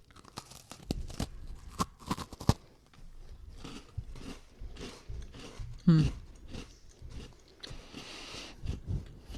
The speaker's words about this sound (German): Es ist ein Oreo. Es ist, glaube ich, kein Nutella-Kekse, aber es hat so eine Art Gravur. Können wir die Augen aufmachen? Nee, ihr solltet jetzt reinbeißen. Okay. Es ist auf jeden Fall eine Art Oreo.